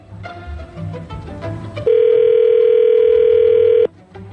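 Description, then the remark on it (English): A steady, loud telephone dial tone before a radio morning show's call holds one pitch for about two seconds, then cuts off abruptly, with faint background noise before and after. “So we are going to call the girl.”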